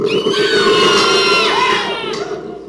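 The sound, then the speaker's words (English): An audience screams together from or for Iceland in one loud, sustained burst, high-pitched and shrill, holding for a couple of seconds before tapering off slightly at the end. “I want to hear a scream either from or for Iceland.”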